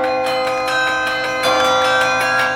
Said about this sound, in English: I think it's important to put something familiar so that one can relate to and say, oh, they're actually making music. And probably a lot of them don't really know that it's real bells being played by a real person.